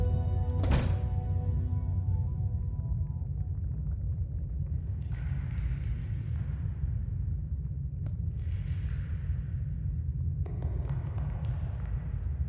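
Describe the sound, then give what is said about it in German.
A single solid thud near the start, like a door shutting, rings briefly over a steady low rumble of background ambience, followed by soft airy swells. “Und schließt die Tür.”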